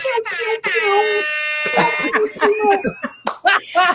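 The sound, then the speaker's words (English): A blaring, harmonic air horn blast from a cell phone at a middle school concert rings out for about a second, thin and buzzy like it's played through a small phone speaker, followed by people talking and short sharp sounds. “And my wife pulls out her little air horn on the cell phone.”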